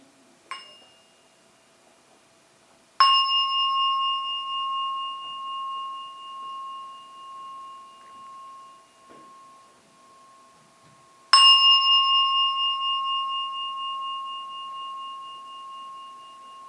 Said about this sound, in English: I will now invite the bell to signal the end of the meditation, and at the third ringing of the bell, it's time to come out.